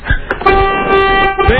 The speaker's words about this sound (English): Go out and honk your car's horn. Okay. Hey, listen to that.